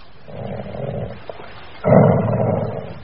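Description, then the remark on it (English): Timmy, a dog, growls fiercely and angrily while sniffing around for a trail. There are two long, rumbling stretches, the second louder and harsher after a brief pause, with no one speaking. “Why does he sound so fierce? Really angry.”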